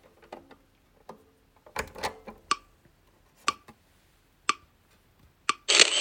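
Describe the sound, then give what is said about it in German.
A document scanner scanning a page of reading material after its Scan button is pressed: a scattered series of sharp mechanical clicks and ticks, then a loud, steady whirring scan noise starts up right at the end. “Das Lesegut liegt nach wie vor den Lautsprechern und ich drücke die Scan-Taste.”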